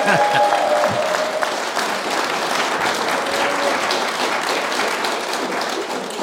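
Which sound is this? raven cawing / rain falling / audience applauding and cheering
audience applauding and cheering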